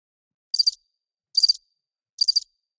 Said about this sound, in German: Bitte mal die Grillen gerade einspielen.